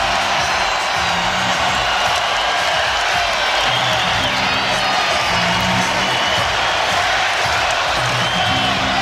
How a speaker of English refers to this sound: That big round of applause is not for Giannis, it's for Za'Darius Smith of the Green Bay Packers.